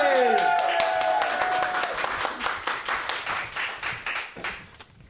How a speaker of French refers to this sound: Mesdames et messieurs, notre prochain slammer est une... Slammer ! Un tonnerre d'applaudissements pour les Toqués, s'il vous plaît !